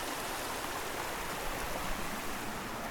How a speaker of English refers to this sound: Oh, we're just walking past quite a full stream. Must have been a bit of rain in the night by the looks of that. It's worn itself a channel down there, look. Yeah. Beautiful sound, isn't it?